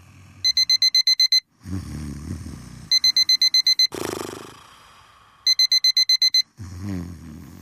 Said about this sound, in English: His alarm was ringing and he didn't wake up.